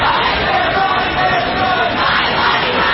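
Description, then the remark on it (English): A large protest crowd in Washington or elsewhere in the US roars and shouts together in a dense, steady wash of many voices. It is loud and continuous for the whole stretch, with no single speaker standing out. The protest comes the day after the U.S. Supreme Court overturned Roe v. Wade. “Crowds gathered in Washington and elsewhere around the country.”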